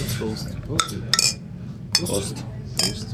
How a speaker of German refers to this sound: Dann würde ich sagen, prosten wir mal mit dem Zweitbier. Ich mal einschenken.